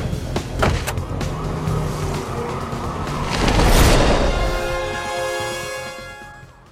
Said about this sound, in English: What an exit. Yeah. Just opened his car door and then just flew away.